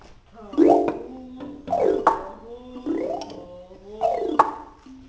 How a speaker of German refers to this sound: Ein Elefant trompetet in der Ferne.